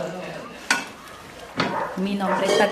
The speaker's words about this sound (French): Dans la cuisine de l'hôtel, la compagne de Jackson prépare des fritures pour le déjeuner. Ça, c'est de la banane plantain. En Colombie, ils appellent ça maduro, un maduro frit.